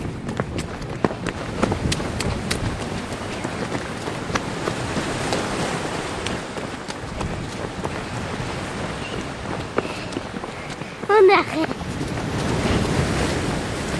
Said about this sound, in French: Il y a beaucoup de vent. Que j'ai les larmes aux yeux. C'est vrai. Mais c'est pas étonnant, ici il y a tout le temps du vent. Comme c'est plat, il n'y a pas d'obstacle, alors le vent frappe directement ici.